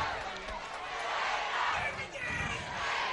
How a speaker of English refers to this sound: So they put 23 seconds on the clock. You hear the Raider chant across the way. But it's almost like there's more Raider fans here or something. That crowd has grown.